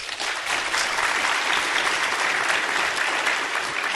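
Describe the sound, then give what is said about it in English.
A room full of people claps steadily for about four seconds, an audience voting that a claim about an exoplanet raining glass is the fiction; a dense, even patter of applause at moderate loudness with no voices standing out. “If you think that the exoplanet raining glass is the fiction, applaud.”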